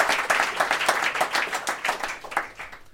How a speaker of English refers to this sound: clapped along with that to try and manipulate the outcome of the vote.